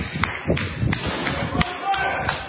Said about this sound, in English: Let me see. This is my flip-flops slapping.